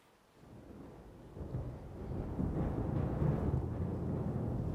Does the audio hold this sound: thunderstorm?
yes